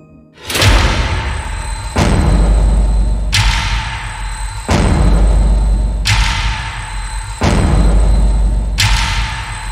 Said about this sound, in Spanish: Pero poco después de eso, una fuerte explosión atraviesa el centro comercial y rompe las ventanas de vidrio.